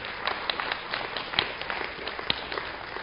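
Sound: audience clapping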